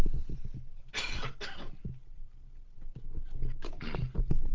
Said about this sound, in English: For instance, just going to have a cough and a drink. Excuse me just a sec.